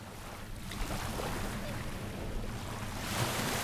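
Steady outdoor wind rushes over the sound of waves lapping along a shoreline at Salem Willows Park on a breezy day, a continuous waterfront ambience that barely changes in level throughout.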